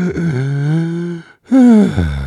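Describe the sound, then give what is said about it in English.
Heavy, voiced breathing into the microphone: a long, drawn-out groaning exhale, a brief pause, then a second loud breath. No talking. “Glad my breathing sounds good.”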